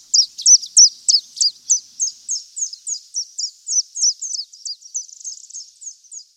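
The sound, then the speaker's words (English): A bird calls in a steady, rapid series of high, sharp chirps, roughly three notes per second, repeating over several seconds with no voices; a recording from the Macaulay Library at the Cornell Lab of Ornithology. “The sounds of the birds featured on BirdNote come from the Macaulay Library at the Cornell Lab of Ornithology.”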